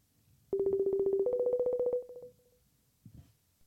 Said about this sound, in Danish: Oh, nej, nu ringer han sgu. Okay, vild lyd.